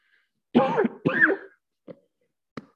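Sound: coughing and throat clearing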